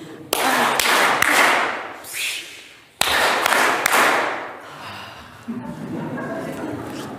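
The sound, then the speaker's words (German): Three sharp hand claps ring out, followed by a hiss and rustle as a can of cola is opened, then another three hand claps, with a dull thud in between, performed as the "Cola Clap". “Der funktioniert so, wir klatschen 3-mal in die Hände, dann öffnen wir die Dose, dann klatschen wir wieder 3-mal in die Hände und dann nehmen wir einen Schluck Cola.”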